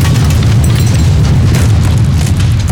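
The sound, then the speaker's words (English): A loud, sustained missile explosion boom with deep rumbling low end and a crackling, roaring wash above it, continuous for nearly three seconds with no voices; the blast rocks a spaceship. “The ship rocked on the wave of the explosion, more extreme than before.”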